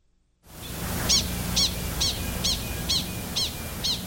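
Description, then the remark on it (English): A rapid series of seven sharp, high chirps repeats at a steady, quick rhythm, an animal alarm call signaling a coyote, heard clearly over a low rumbling outdoor background. “That's that very rapid chirp.”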